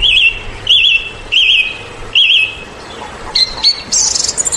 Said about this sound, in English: It spread out its wings, fitted them carefully into place again, ducked its head for a moment as though making a sort of obeisance to the sun, and then began to pour forth a torrent of song.